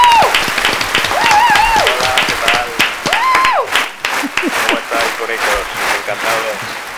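Steady, loud applause from an audience fills the whole stretch, dense clapping with scattered whoops and cheers rising above it, some high-pitched shouts standing out.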